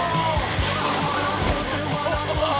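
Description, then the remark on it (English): Continuous sloshing and splashing water fills the scene, loud, on a water slide where a motorcycle pulls a kid down, with a busy outdoor wash of activity and some indistinct voices mixed underneath. “The motorcycle pulls a kid down the water slide.”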